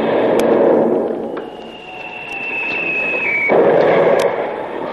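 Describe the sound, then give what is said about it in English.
A cannon shell whistles in on a steady high tone for about two seconds, then a loud, rumbling blast as it hits a ship, carrying away the rudder, breaks over a constant roar of noise. “That shot must have carried away the rudder.”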